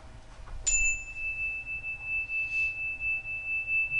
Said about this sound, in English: Seaman taps a handheld chime in a classroom at Barry Law School in Orlando, Florida.